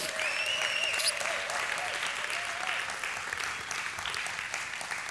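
An audience at a Sunday church service claps steadily and loudly for the people who set up the service, a dense wash of many hands filling the whole clip, with a few whoops and raised voices rising above the applause.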